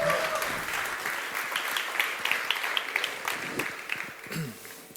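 An audience applauds steadily, a dense wash of many hands clapping at an even, sustained level throughout, with a few sharper individual claps standing out near the end.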